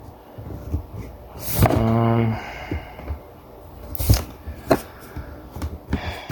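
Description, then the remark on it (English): A sharp crack leads into a brief, buzzy rasp of masking tape being peeled away, followed by a few hollow knocks as a wooden door is set down. “So now let me, I guess I can peel off the masking tape. And put the door down.”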